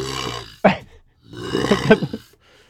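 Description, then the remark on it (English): A voice imitates a low, tuba-like dinosaur honk of the kind a dinosaur with a bird-like syrinx could have made: a brief throaty blast, a short pause, then a longer wavering, pulsing bellow with a buzzy, groaning tone. “It's a honk, but it's like a tuba honk. So it's like a pulse, a very low sound.”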